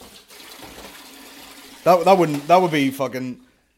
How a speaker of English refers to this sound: Sorry about the run. Just pretend you're at a waterfall. Get that kettle filled the fuck.